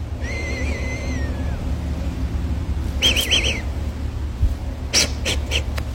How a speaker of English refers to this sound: Also, I realize I have never actually addressed this, and it can sometimes be very noticeable. I have a really loud whistle. If you go back to videos, you can hear it when I breathe through my nose.